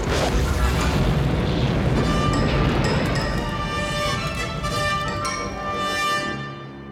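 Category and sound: sound effect, explosion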